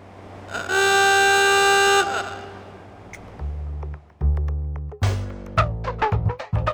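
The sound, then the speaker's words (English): A loud old small black doorbell in Juneau, reconnected one more time to record its sound, rings with a harsh, sustained buzzing tone for about a second and a half, followed by a low hum and a scatter of sharp clicks and clanks. “Instead, he reconnected the doorbell one more time for KTOO to capture the sound that delighted and annoyed Juneau residents for years.”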